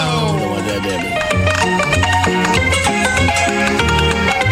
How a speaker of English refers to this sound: And enjoy this funky but fun ragtime piano music.